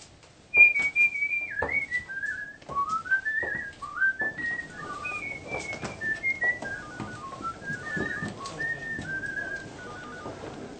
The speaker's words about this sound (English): Today, he's in a good mood as he starts his first day at work. On the way to the office, he whistles a tune. Listen to this scene. Do you know this melody? Perhaps you already know who composed it.